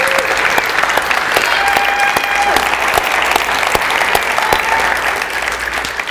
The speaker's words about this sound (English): Could we give God just one more hand clap of praise today?